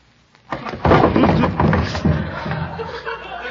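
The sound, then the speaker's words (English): During a game of hide-and-seek, a sudden loud bump as someone knocks into a chair, followed by a few seconds of rough scraping, shuffling and clattering of furniture that gradually fades. “Who left that chair there?”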